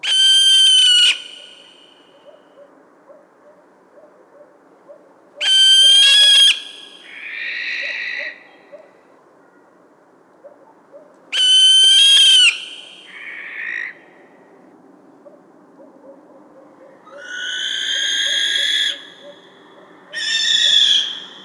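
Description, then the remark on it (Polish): Harsh, piercing barn owl shrieks ring out in repeated bursts: the female's high, raspy contact screams, each lasting about a second, alternating with the male's rougher, hoarse courtship screeches, over a faint background of soft chirping. “Przeraźliwe okrzyki wydobywane przez płomykówkę nie przypominają dźwięków wydawanych przez żadną inną sowę.”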